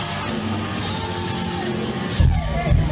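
A singer on stage yells hoarsely at a man in the crowd while singing, over loud, dense live music and crowd noise, his shouting strained and continuous, with a heavy low thump surging in near the end.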